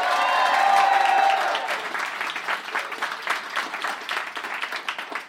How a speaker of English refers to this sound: Give me a round of applause if you've ever heard the show at all before.